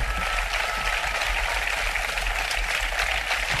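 Sustained crowd applause at a political rally in La Pineda de Gavà, a dense steady wash of clapping with no gaps or peaks, loud and even for the whole stretch, with no voices rising above it.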